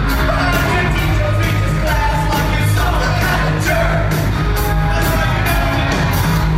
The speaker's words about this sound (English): This is our raw audio. Someone on a cell phone put this on Facebook. Listen to the crowd get into it on the chorus.